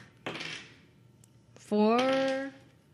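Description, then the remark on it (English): A brief clatter of dice rolled across a tabletop during a game lasts about half a second, then after a pause a short sustained vocal sound rises in pitch. “Nope, this is the wrong dice for one thing. Why are there so many dice in this game?”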